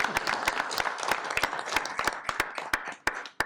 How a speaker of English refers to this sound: You definitely deserve Yard of the Month for June. So we'll be sure to get you the sign, and we will send you yes, sir, the certificate as well. So. Round of applause for Yard of the Month this month.